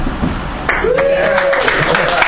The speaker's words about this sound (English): Yeah, big cheer for that.